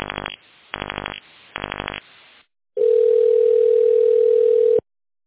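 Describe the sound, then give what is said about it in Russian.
Three short telephone beeps in a quick, even rhythm as an employee's internal extension is dialed in tone mode on the Credit Europe Bank phone line, a brief pause, then a long steady ringing tone that holds for about two seconds before cutting off. No voices, clear over the line. “Наберите внутренний номер телефона сотрудника в тоновом режиме.”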